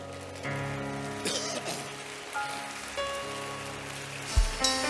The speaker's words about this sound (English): Rise up on your feet and give the Lord a clap offering.